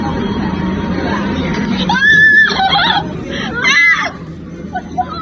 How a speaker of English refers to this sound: What caused the scream... Yeah. One of the pieces of chicken got up and walked away.